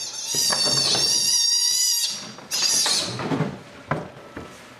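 A sea otter pup, taken from its mother during a veterinary operation and put into a box, screams for her in shrill, piercing cries: a long sustained wail, a brief pause, then another strident call followed by shorter squeaks over faint rustling and thumps.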